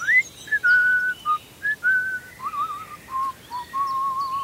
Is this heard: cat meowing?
no